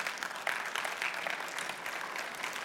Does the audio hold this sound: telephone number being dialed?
no